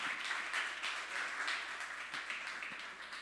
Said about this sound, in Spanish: Así que le damos un aplauso de bienvenida, ¿le parece?